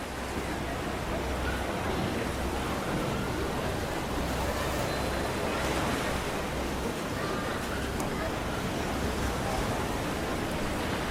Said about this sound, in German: Genauso, wie die Wellen auf- und abrollen.